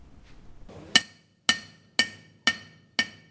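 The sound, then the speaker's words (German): Five sharp metallic hammer strikes ring out at a steady, even pace, each with a bright ringing tail, following a brief low rumble of activity in the metal department of an orthotics workshop where orthoses for children are built. “Und da gehört Bohren, Schleifen und Fallen dazu.”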